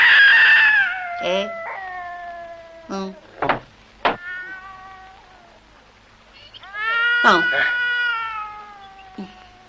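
cat meowing

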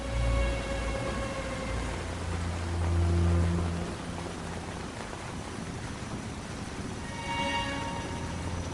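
rain falling

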